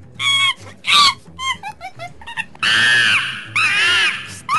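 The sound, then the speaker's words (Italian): A chimpanzee shrieks in a run of short, high hooting bursts that build into two long, loud, piercing screams, with no talking over it. “Scala della scimmia, abbiamo uno scimpanzé.”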